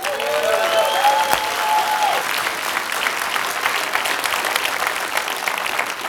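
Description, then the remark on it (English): A crowd claps steadily and loudly throughout, a dense wash of applause with a few whoops and whistles rising above it in the first couple of seconds. “Give him a hand.”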